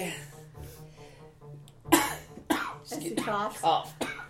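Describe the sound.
A person makes a theatrical, monstrous cough imitating an evil ghoul, a few harsh, raspy bursts following a low voiced groan.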